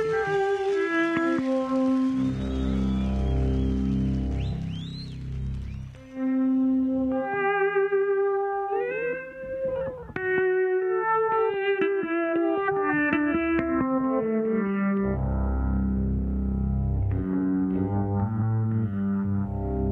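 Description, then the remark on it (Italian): Heavily effected, distorted electric guitar squeals and bends in sliding, trumpet-like cries resembling an elephant, played loud over a driving band with bass and drums, with no talking. “diciamo che tira fuori dei rumori che ricordano il barrito, giusto, il barrito di un elefante.”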